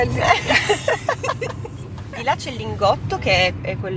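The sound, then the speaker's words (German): A small car's engine rumbles low and steady from inside the cabin as it is manoeuvred through stop-and-go traffic on the way to the Mirafiori Sud working-class district, with voices talking over the constant hum of traffic. “manövriert ihren kleinen Wagen souverän durch den stockenden Verkehr.”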